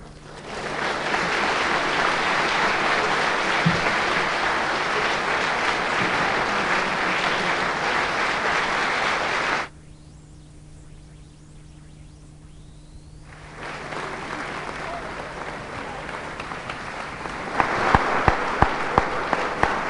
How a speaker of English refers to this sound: People clap like that when I gave lectures.